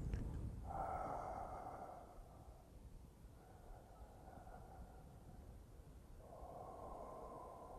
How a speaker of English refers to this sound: If I'm sitting shikantaza, now I am just sitting with that very subtle breathing.